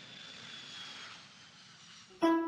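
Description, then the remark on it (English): A steady, moderately loud airplane engine drone as the plane comes in to land in Seoul, then a louder, bright tonal sound cuts in abruptly right at the end. “The plane is about to land in Seoul, and he's looking out of the window, and is this Seoul?”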